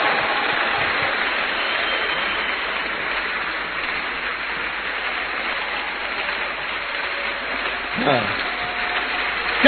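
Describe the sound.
An audience, standing after a sermon, claps steadily, a dense, even wash of many hands lasting the whole stretch, with a single voice rising briefly near the end.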